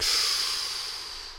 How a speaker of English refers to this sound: This is a chakra breathing meditation. It'll assist in developing your capacity to direct energetic breath. Breathing into your nose, warming the air into the lungs, filling the tummy like a big balloon.